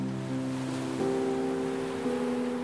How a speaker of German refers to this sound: Schließe deine Augen und stelle dir vor, du liegst am Strand. Die Sonne wärmt dein Gesicht und du hörst das sanfte Rauschen der Wellen.